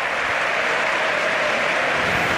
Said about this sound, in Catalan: Marxen ovacionats per el públic d'aquí de la Ceràmica.